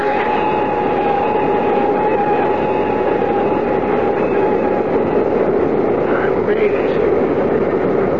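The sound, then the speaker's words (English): An airplane rolls down the runway while braking after landing: a loud, steady roar of rumbling noise with a sustained mid-pitched whine running through it, unbroken for the whole stretch. “The plane is down”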